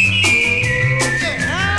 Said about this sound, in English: Well, I'm a whistling to keep from crying.